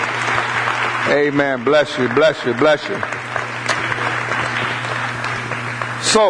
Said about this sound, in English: Come on, let's put our hands together for the Lord.